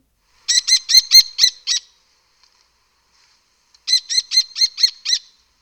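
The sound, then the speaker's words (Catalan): Two bursts of shrill, rapid bird calls, each a run of about six sharp repeated notes, fairly loud, separated by a couple of seconds of silence, typical of a lesser kestrel. “Això és un falconet, sí.”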